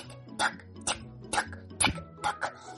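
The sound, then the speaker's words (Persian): A clock-like tick-tock, told as the sound of a tick-tock tree filling a whole garden, ticks in a steady, even rhythm: about six clear ticks at a moderate volume over a faint background hum, with no talking. “دید که درخت تیک تاکاش بسیار قوی شده و همین شکلی صداش کل باغ رو گرفته.”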